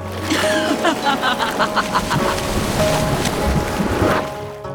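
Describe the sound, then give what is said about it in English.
Churning, splashing water rises, filling the scene at steady volume, with a quick series of rhythmic sloshes early on before settling into a continuous rushing surge. No one speaks. “The laugh echoed in his ears as the water in front of him began to rise.”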